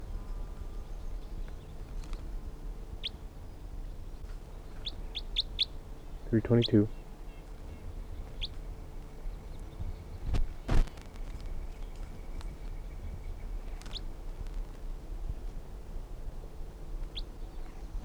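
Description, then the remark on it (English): Scattered short, high-pitched chirps from a flock of birds calling from the trees while about 15 others are caught in a net, sparse and fairly faint over a steady low background hum, with one louder, harsher burst of calling partway through. “Recording, there are 15 birds in the net, and a lot of them, the rest of them are up in the trees calling,”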